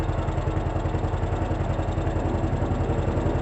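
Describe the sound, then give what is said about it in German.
An old car engine runs with a steady, rapid knocking rattle, low and throaty, without any voices, as the car is driven from a garage onto Bahnhofstraße in Burgdorf. “Sie lernt rasch und knattert stolz von der Garage auf die Burgdorfer Bahnhofstraße.”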